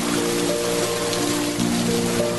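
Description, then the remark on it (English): Steady rain falls in a Zen garden, pattering across a surface in a continuous, even hiss, with a low tonal hum running faintly underneath and no voices. “Maybe it was the rain.”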